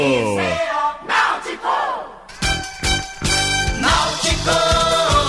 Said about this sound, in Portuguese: aí o Alisson na pequena área sozinho, mandou pro fundo do gol, explosão da torcida, Alvirrubra hexacampeão de Pernambuco!